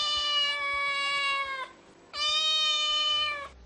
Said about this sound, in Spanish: Se puede saber qué clase de gato es. Por ejemplo, este es el maullido de un gato que te da la lata.